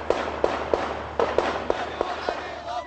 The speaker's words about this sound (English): And when the announcement reached Iraqi homes and streets, the reaction was immediate. Celebratory gunfire broke out.